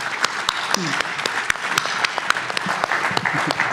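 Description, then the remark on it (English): A crowd claps steadily as three panelists, product managers from TikTok, Google and eBay, walk up from backstage: dense overlapping handclaps forming a continuous wash with sharper individual claps popping out, while a few voices murmur faintly underneath. “So give them a round of applause as they're walking up here.”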